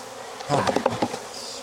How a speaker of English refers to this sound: I got a tiny little hole at my zipper, right here. You guys have that one? Maybe that's where she got in. There's Velcro right there, but now I've just got to decide, am I gonna visit with this little bee in my bonnet, or?